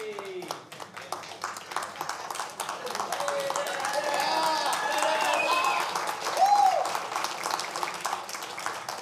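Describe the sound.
A church audience claps steadily for about nine seconds, a dense, sustained patter of many hands, with scattered voices and a brief whoop rising above it near the end.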